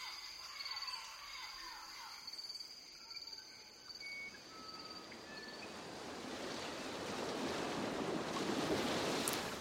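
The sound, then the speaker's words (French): Ocean waves in Bernie Krause's 'Océan' soundscape from the exhibition Le Grand Orchestre des Animaux swell from a faint hiss into a loud, rushing surf that fills the second half, while insects drone and birds chirp sporadically in the quieter opening. “Dans Océan, un tout autre paysage de sons dans l'exposition Le Grand Orchestre des Animaux, Bernie Krause a combiné des enregistrements de lieux différents, réalisés à des époques différentes.”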